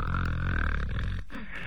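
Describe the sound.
A voice mimics the loud, rumbling snoring of Lu Zhishen asleep in the embroidery chamber, a long throaty drone with a rough, rattling texture that breaks off briefly before resuming, full.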